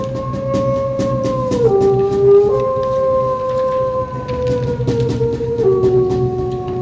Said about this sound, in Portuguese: Tristonho passeava pelos campos do Arrebol quando foi surpreendido por um uivar conhecido. Era o uivo do Seu Lobonildo.